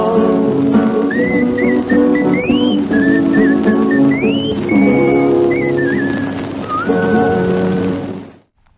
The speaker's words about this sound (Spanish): Hasta su mesa querencia, patroncito, hemos venido cantando esta humilde samba que termina en un silbido.